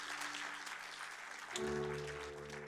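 Applause from an audience answering a preacher's call to clap as testimony, a dense, steady patter of many hands clapping that fills the space, with a low sustained musical hum underneath that grows fuller partway through.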